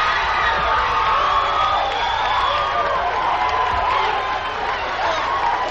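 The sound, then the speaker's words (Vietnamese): A studio audience at an American TV show cheers loudly and steadily, a dense roar of many voices with whoops and shouts rising above it, sustained for several seconds without a break. “người xem tại hiện trường lớn tiếng bảo là hay.”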